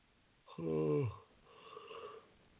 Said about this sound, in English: Excuse me, I don't mean to yawn in your ears.